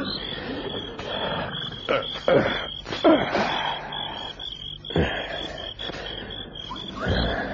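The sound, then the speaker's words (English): Deep, rumbling hippo grunts and bellows rise and fall amid bursts of splashing water as the hippos splash water over their heated bodies, in Africa, over a constant high insect whine running through the whole recording. “Hippo. Water splashed over heated bodies.”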